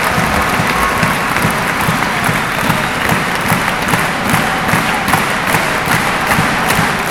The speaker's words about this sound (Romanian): O echipă de aur a tenisului românesc, echipa de Fed Cup a României. Aplauze pentru această minunată echipă și pentru capitanul de jucători, Florin Sedărceanu.